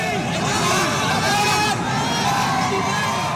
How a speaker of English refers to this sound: In fact, huge crowds welcomed the Pakistani team when they arrived in India for the tournament.